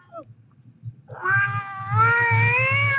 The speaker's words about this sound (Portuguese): Gaivota. Esta é a nossa amiga gaivota. Não estava à espera disto.